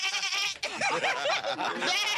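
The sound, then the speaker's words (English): A goat bleats loudly and continuously in a wavering, nasal cry, with a brief break partway through before the bleating resumes and carries to the end. “No, not the goat.”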